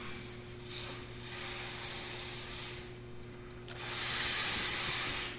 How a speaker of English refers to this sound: If I, this star here, if I take a ruler and I measure the distance right now between this star and this one, watch what happens to the distance as I inflate the balloon.